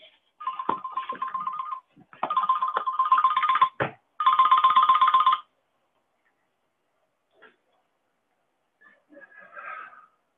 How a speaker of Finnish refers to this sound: miksi se on puhelin, mä hiljennän sen.